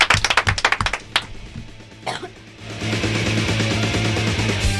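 A short burst of quick, loud hand clapping from a few people, thinning out after a second, followed by a steady wash of noise with a rhythmic low pulse underneath.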